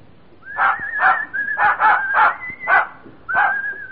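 In the radio play All This and Heaven Too, a dog gives a quick run of about seven excited, mid-pitched barks, broken up by a thin, steady whine that carries on between them. No one speaks.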